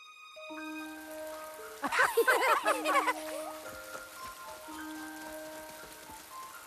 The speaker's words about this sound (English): And there is always plenty of rain for all. In fact, we're due for some right now.